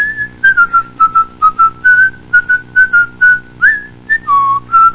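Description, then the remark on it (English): A person whistles the tune of the Ritter Finance jingle alone, a short, bouncy melody of clear pitched notes in quick rhythmic phrases with brief gaps, fairly loud. “Isn't that the tune to the Ritter Finance jingle you were whistling, honey?”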